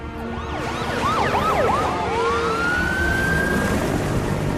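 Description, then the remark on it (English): Wailing sirens of fire trucks and bomb disposal teams racing towards an aircraft sweep rapidly up and down over a loud rumbling engine and traffic noise, then settle into one long rising tone as the vehicles approach. “Captain Rich watches as fire trucks and bomb disposal teams race towards his aircraft.”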